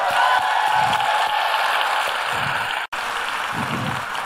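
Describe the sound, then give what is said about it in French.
An audience claps steadily in response to being asked who likes François Lemay, a dense, hissing wash of many hands that holds level for several seconds, broken only by a split-second dropout before it resumes just as thick. “Vous applaudissez parce que vous le connaissez pas.”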